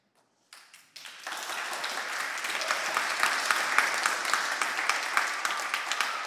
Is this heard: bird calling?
no